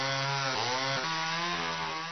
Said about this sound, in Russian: И пилит, и пилит, и пилит.